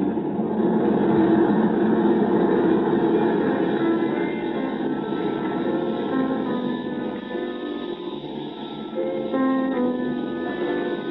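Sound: airplane cabin engine drone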